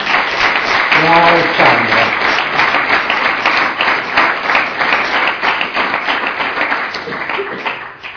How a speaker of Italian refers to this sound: L'applauso se mi permettete lo dedichiamo a Mai, no? La protagonista del filmato